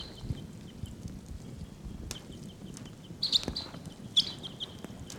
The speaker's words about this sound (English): 749 and 745 responding. Wild birds calling. Here comes one. Flying away from the tree and then back.